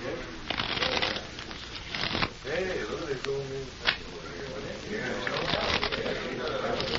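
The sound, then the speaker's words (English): A deck of playing cards is shuffled before a card game played for chips, with quick papery riffles and flicks over several seconds, and a faint voice murmuring in the background. “Mind if I shuffle them once? Just for luck?”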